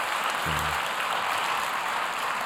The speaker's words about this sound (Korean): 그리고 한해 동안 이 연합예배 우리 찬양으로 섬겨준 우리 찬양팀께 무엇보다 감사한 마음을 가져보는 시간이었는데, 우리 감사한 마음으로 한번 같이 박수로 인사해 보도록 할까요?